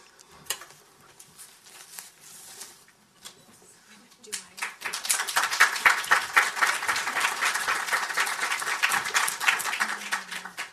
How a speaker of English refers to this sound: And, you know, we should really give a huge round of applause for the Africa Growth Initiative turning 10 this year.